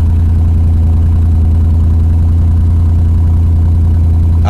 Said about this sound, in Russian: Отлично. Отличный вообще звук просто. Ой-ой-ой. 477 лошадиных сил. V8, 5 литров. Собранный вручную двигатель. Ну, безупречный, честно вам скажу.